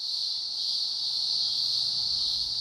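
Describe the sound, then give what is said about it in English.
A dense chorus of thousands of cicadas calling for mates in Gippsland fills the air with a steady, shrill, high-pitched pulsating drone that barely wavers, loud and continuous throughout, with a faint low rumble underneath and no voices. “Cicadas in Gippsland.”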